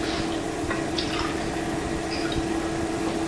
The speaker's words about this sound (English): you want me to pour your milk